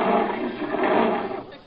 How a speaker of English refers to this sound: Jerry, surely you're not afraid of that lion.